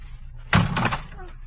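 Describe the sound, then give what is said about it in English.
A door is yanked open with a sudden sharp clunk and a brief rattling scrape, followed by a faint voice-like murmur in the background. “I thought we had an audience the other side of the door.”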